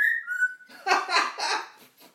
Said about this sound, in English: Oh, parrot, what do you like?